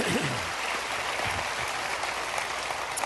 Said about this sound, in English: Go ahead and clap for that if you want to.